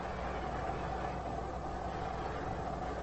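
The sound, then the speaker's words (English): A car engine idles steadily in a garage, muffled as if heard through a closed door: a constant low rumble and hum with no change in pace, moderately quiet, and no voices. “Engine's running.”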